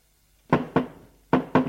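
Four firm knocks on a door, delivered as two quick pairs separated by a short pause, fairly loud against a quiet background with no voices.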